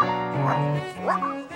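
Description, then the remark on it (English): A dog barks and yips in a quick run of close, fairly loud vocalizations, its tone sliding up and down in whiny, wavering bursts with no talking. “That is a very gifted dog.”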